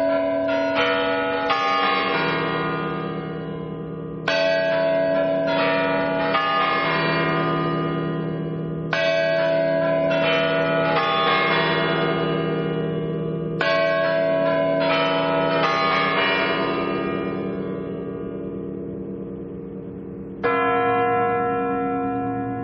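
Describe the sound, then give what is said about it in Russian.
The Spasskaya Tower clock chimes ring out loud, a slow sequence of deep, resonant bell strikes whose long ringing tails overlap and blend. No one speaks. “Но еще до войны с курантами на Спасской башне возникали проблемы.”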